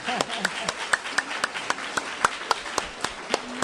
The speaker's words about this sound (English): I'm going to take a breath and take your questions. And I hope someone asks me if Justice Ginsburg is going to retire. I'm going to leave the applause.